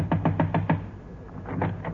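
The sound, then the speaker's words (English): A quick series of about five firm knocks on a next-door neighbour's door, followed by a few softer, less distinct raps after a short pause, with no talking. “I'll knock again.”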